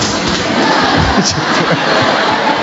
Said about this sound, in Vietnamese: Chúng ta cho một tràng pháo tay chào cái thằng bé này, rất là dễ thương.